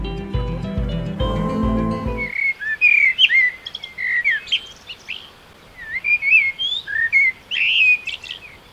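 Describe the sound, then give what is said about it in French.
A brief burst of music cuts off, leaving birds singing alone in an urban area: clear, warbling whistled phrases repeated in short bursts over a quiet background. “Depuis quelques jours, un peu partout, on entend le peuple des airs comme jamais dans nos milieux urbains.”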